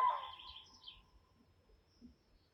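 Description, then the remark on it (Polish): A common crane's trumpeting call rings out at the start, then fades away over a couple of seconds, leaving a faint, low background murmur with no voices. “Jesteście gotowi na 3 niesamowite ciekawostki o żurawiach?”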